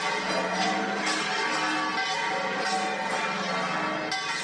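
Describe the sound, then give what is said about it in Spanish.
The bells of the Giralda and other churches in Seville peal together in a dense, continuous clangor, overlapping strikes ringing out loudly and steadily, celebrating the new Pope, Leo XIV, with no voices present. “El sonido de campanas de la Giralda y también de otras iglesias celebrando esa buena nueva.”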